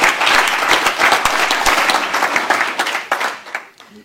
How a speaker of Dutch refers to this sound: Heel erg bedankt daarvoor en een groot applaus voor uw inzet.